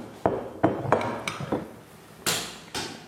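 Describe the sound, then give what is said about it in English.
Wine, a 2018 Sette Fuentes made of 90% Listan Negro and 10% Castellana Negra, poured into glasses during a wine tasting: a handful of sharp glassy clinks and taps, then two short, bright, splashing pours of liquid, with no one speaking. “So we're just pouring now.”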